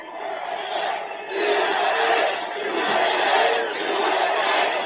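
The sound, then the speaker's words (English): A large crowd at a rally roars and cheers continuously, a dense wash of many voices swelling in waves, loud and sustained throughout with no single speaker standing out. “Crowd going wild.”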